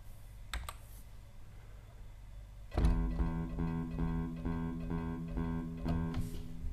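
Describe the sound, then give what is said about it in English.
Sparse computer keyboard keystrokes entering notes, typing zero for an open E note on each downbeat: a couple of sharp clicks over a low hum, then more isolated taps punctuating sustained, steady musical tones that begin partway through. “And then I'm going to place an E, an open note, typing zero, on each downbeat. Next I'll enter the eighth notes in the bass using step entry.”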